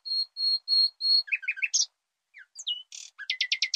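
A young songbird sings a full, clear song modeled on its father's, which it heard as a nestling: four steady whistled notes, a burst of varied chirps, a brief pause, then quick repeated notes at the end, with no voices.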